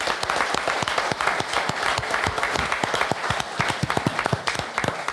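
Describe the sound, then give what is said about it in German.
An audience applauds steadily, a dense patter of many hands clapping at once with sharper individual claps standing out, sustained and fairly loud throughout with no talking. “Und natürlich von Use Stelle nochmal einen ganz großen Applaus von Usfeier an das tolle Publikum von Dage.”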